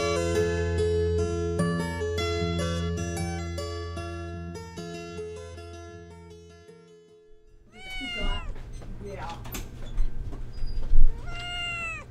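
After several seconds of steady instrumental music fades out, a cat meows loudly, letting out a few drawn-out, wavering meows with no one talking.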